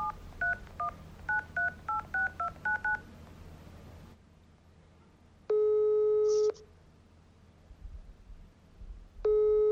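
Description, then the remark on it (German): A quick run of about a dozen touch-tone keypad beeps as a phone number is dialed, a few seconds of quiet, then a telephone ringing tone sounding in steady, one-second bursts with a long gap between them. “Naja, ich würde sagen, ich klingel mich mal durch.”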